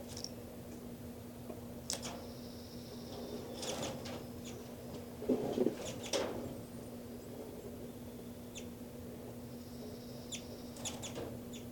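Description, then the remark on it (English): Birds 5-9 and 3-3 flutter about inside a cell, their wings making scattered bursts of flapping and rustling, with a few faint high chirps over a steady low hum. No one speaks. “So, they're going now inside the cell of birds 5-9 and 3-3.”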